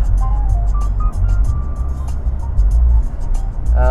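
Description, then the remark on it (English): A sports car engine roars as it accelerates in a passing lane at 120 in fifth gear and 3,400 RPM, a loud, steady low rumble with a whining tone on top that carries on unbroken for about four seconds. “But you can't be pulling out in front of a sports car.”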